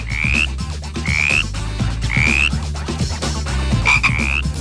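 Frog croaks repeat four times at roughly one-second intervals, each a short rising chirp, loud over a steady low rumbling bed of sound, with no talking.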